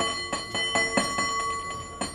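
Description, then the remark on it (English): A San Francisco cable car bell is rung by a three-time bell ringing champion in a quick, syncopated rhythm, around eight sharp strikes in two seconds, its metallic ring sustaining between hits, fairly loud with no voices. “I'm a 3-time bell ringing champ in San Francisco on the cable car.”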